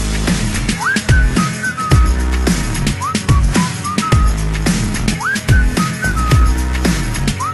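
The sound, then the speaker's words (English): A short whistled melody with quick upward slides repeats twice over a loud, punchy beat with heavy bass and sharp percussion, the whistle sitting clearly on top of the music. “Can you blow my whistle, baby? Whistle, baby. Here we go.”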